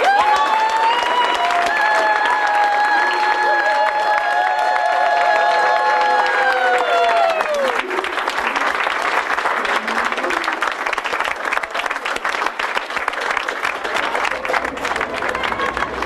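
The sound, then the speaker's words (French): A large crowd applauds loudly and steadily, with high whistles and cheering voices rising over the clapping in the first half before settling into a dense, continuous wash of applause. A music group applauds itself just before going on stage for its concert at the Olympia on 7 October 2012. “Et on peut se féliciter et s'applaudir.”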